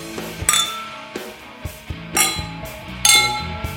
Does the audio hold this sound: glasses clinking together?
yes